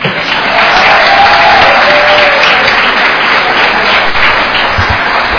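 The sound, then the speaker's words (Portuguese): Sustained applause from an audience at a city council session, a dense, steady wash of many hands clapping at once, loud and continuous for several seconds with no talking over it. “Então eu gostaria também de ter um aplauso de vocês aí.”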